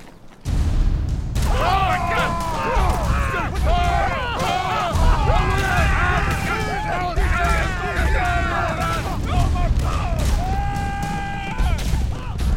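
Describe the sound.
A loud, chaotic scene in a wooded area of repeated gunshots mixed with overlapping screams and shouting voices, with heavy rumbling underneath, running continuously for several seconds after a brief quiet start.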